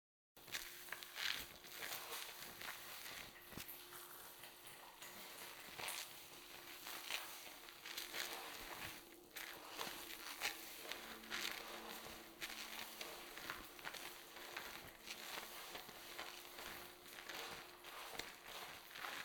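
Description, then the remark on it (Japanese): Soft squishing and crackling of foamy shampoo being worked through hair as someone gently washes another person's hair, a steady wet scrubbing texture with brief rustles, continuing throughout with no voices. “許可も取ったし、頑張って優しく洗ってあげるね。ではシャンプーを。”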